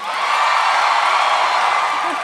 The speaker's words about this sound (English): I feel like I got the definite least amount of applause there, but that's fine.